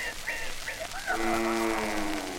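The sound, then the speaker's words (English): A person imitates a little pig: a few quick, squeaky nasal calls followed by one longer, drawn-out grunting squeal, fairly loud with no other talking. “And last but not least, the little pig.”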